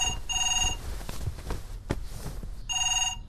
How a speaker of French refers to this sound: Il est 7h du matin à Bruxelles. Wilfried Martens, Premier ministre, dort encore. Soudain, il est tiré brusquement de son sommeil par la sonnerie du téléphone.